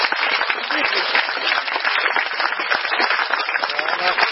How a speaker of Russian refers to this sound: А давайте мы пригласим всех лекторов сюда, а вы нам поаплодируйте.